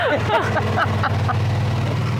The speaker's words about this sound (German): Du hast es gehört? Ja. Du erkennst den Sound von dem Roller, ja? Ja. Okay. Unsere Tiere auch, die hören das dann immer schon von der Wohnung aus, wenn draußen, wenn er kommt und so.